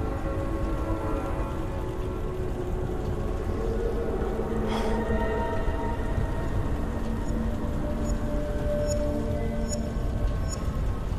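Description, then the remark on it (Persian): Rain falls in a steady, dense hiss that holds at the same level throughout, with faint high tinkling sounds near the end and no voices. “از کی تا حالا بارون برعکس میباره؟”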